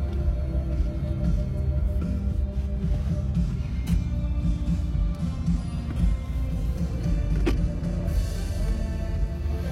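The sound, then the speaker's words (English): A steady low engine hum and rumble from inside a car sitting idle in traffic, with faint mechanical clicks and a couple of brief sharp ticks, no voices present. “Well, you're in luck because we're sitting in this traffic.”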